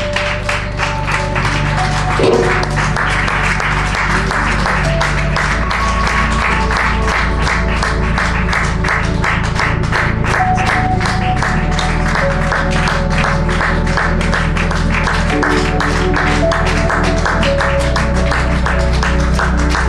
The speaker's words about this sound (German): Komm, wir geben nochmal dem Herrn zum Abschluss einen großen Applaus. Machen wir das? Komm.